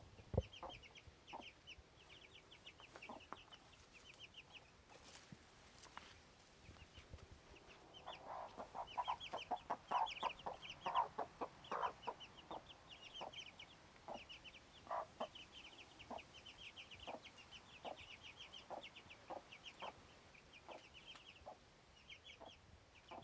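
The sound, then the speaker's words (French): Many young chicks, about 2-3 weeks old, peep in a busy, overlapping chorus inside a pen, with soft clucks and scratchy movement throughout, steady, with a louder flurry of activity midway. “Là, ça fait du bruit, un peu. Ils ont quel âge, les poulets ?”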